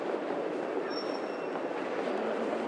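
A train rumbles past on the rails with a steady, dense roar, a thin metallic wheel squeal rising briefly in the middle; no voices are heard.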